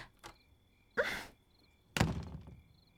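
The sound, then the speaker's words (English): A faint tap followed by two heavy thuds about a second apart, a blunt blow striking a man and knocking him unconscious, each with a brief rumbling decay over a thin steady whine. “I just knocked him out.”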